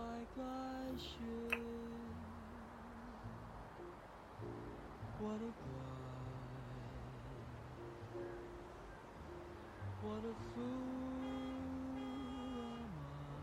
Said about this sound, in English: You know, I love how even if there's cars honking their horns below, it's still peaceful up here.